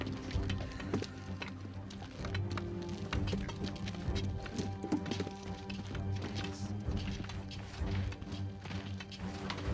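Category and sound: human body sound, heavy footsteps approaching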